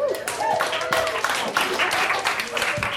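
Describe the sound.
An audience claps steadily in dense, crackling applause, with a few voices calling out and cheering through it for the whole stretch.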